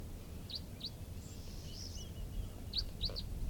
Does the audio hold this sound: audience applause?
no